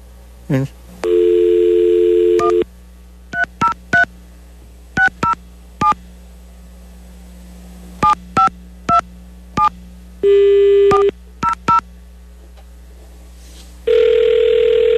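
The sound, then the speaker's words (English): A quick string of telephone keypad tones beeps in irregular clusters as someone dials a rejection hotline phone number, broken up by a few longer steady phone tones, with a ringing tone starting at the very end. Loud, no voices. “All right, you know what, while she was talking there, I think I looked this up, the like rejection phone number.”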